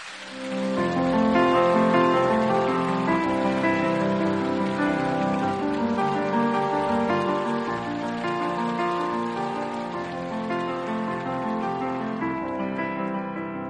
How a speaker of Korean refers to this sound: 그 믿음과 기대를 담아서 우리 큰 박수로 강준민 목사님 강단으로 모시겠습니다.